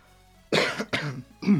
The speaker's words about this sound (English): Excuse me. Thought I'd clear my throat before I start my bit there.